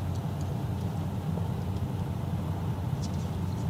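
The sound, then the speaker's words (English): A steady, low rumbling drone of road and engine noise from inside a car driving on Highway 6 (Cornhusker Highway) on the east side of Lincoln, just off the interstate, with a faint brief tick near the end and no talking. “Well, now we are off the interstate. We are on the Cornhusker Road, or Cornhusker Highway, I'm not sure, Highway 6.”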